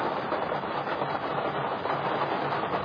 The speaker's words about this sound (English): Can you all hear me over the vast raindrops that are falling down?